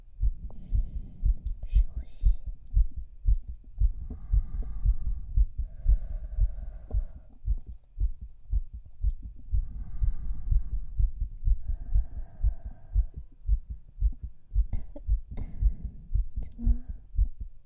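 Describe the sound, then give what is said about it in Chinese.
A fast, steady heartbeat thumps deep and close, heard with an ear pressed to a person's bare chest, with soft muffled rustling and faint breathy sounds drifting in above it. “哎，你怎么心跳的这么快？”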